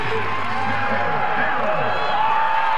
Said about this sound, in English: Awesome, awesome moment. You can hear the crowd. Everybody understands what's happening right now. This is a pretty cool moment.